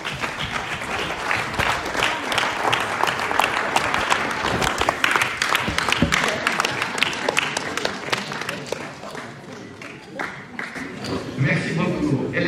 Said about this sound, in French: Je vous invite à applaudir nos mannequins avec le bouclier de la foi.